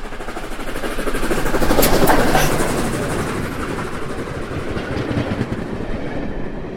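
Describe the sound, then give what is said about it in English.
The steam locomotive Flying Scotsman hauls the Cathedral Express passenger train past on the Surrey Hills line between Guildford and Redhill, wheels clattering rhythmically over the rails, swelling loudest early on before settling into a steady, continuing roar as the carriages roll by. “Flying Scotsman, hauled the Cathedral Express along the Surrey Hills line between Guildford and Redhill on its circular tour from London to Victoria on Wednesday.”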